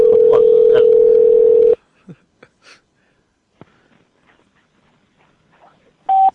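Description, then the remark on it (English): A steady, loud telephone dial tone hums for under two seconds, then cuts off into near silence with a few faint clicks, before a short high beep sounds at the end. “See if we don't get a beep.”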